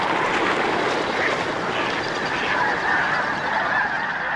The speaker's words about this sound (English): A thousand snow geese take off all at once. The black flag flight feathers of the tips of their wings shirr like the blades of powerful engines.